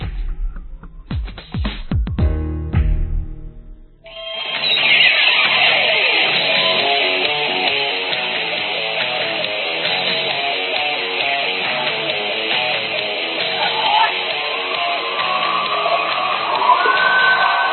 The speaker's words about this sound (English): The crowd making a little racket here for the hometown team as Evangel at home in front by 11.